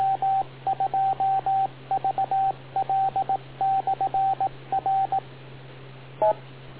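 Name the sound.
radio beep tone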